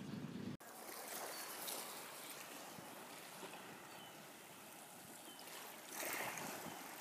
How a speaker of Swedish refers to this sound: Nu har jag varit i Oslo ett tag och har tagit en båt ut i fjorden till Huvudöja, den närmsta ön till Oslo.